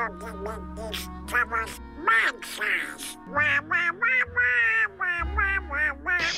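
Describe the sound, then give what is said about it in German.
A raspy, nasal cartoon duck voice quacks and squawks in rapid, speech-like bursts, fairly loud, with a low steady hum running underneath for most of it. “Ich bin mir sicher, den habt ihr erkannt. Donald Duck, der Pechvogel aus Entenhausen.”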